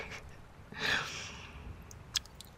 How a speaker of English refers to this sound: And yet I can't help being bent over you on your bed. Kissing and licking and slurping all over your throbbing erection.